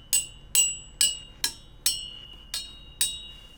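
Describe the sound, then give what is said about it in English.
The end of a pair of tweezers taps a metal lamp pole in a living room seven times in a steady rhythm, each sharp strike leaving a bright, high metallic ring that fades quickly. No one speaks. “Now, the first metal thing I found was tweezers, so here's the end of a pair of tweezers.”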